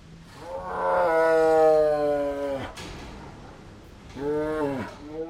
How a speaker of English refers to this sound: That's a lion at feeding time at Turpentine Creek. If you haven't been to the big cat refuge on the outskirts of Eureka Springs at feeding time, you've missed an audio explosion.